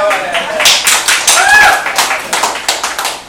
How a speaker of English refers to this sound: Hey, you can applaud, it's okay.